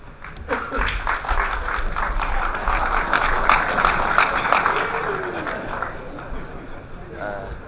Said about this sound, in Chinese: 谢谢大家，掌声鼓励啊！